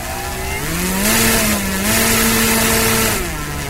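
A small combustion-powered model airplane engine buzzes loudly and steadily as the model plane starts, its high, whiny drone rising in pitch a couple of times as it revs, then settling back, with no voices.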